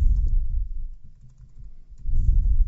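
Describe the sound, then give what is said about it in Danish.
Rapid clicking of computer keyboard typing, fairly loud, with a brief quieter lull in the middle before the keystrokes pick up again. No voices. Someone is typing text into a wiki page. “Jeg skriver bare hernede.”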